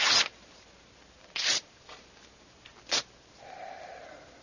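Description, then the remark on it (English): Letter paper burning: three soft, breathy bursts of flaring and crackling a second or so apart, followed by a faint, steady hiss as the flame settles. No one speaks. “Burns nicely, doesn't it? A good letter paper.”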